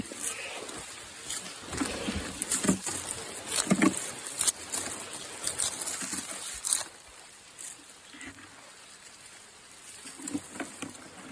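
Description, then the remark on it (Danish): On a quiet mountain field, scattered water drops patter over a steady soft hiss, mixed with repeated rasping, ripping sounds as pickers tear coca leaves from bushes in irregular bursts. No one speaks. “Der er vanddråberne. Og så er der den her raspen af lydene fra plukkerne, som river de her blade af.”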